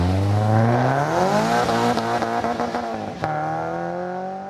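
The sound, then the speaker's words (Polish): A rally car engine roars loudly on a rally course, revving up through several quick gear changes with sharp pops, then easing slightly as it carries on along the course. No one speaks. “Już za chwilę na trasie Radosław Perkowski, kierowca posiadający rajdową licencję”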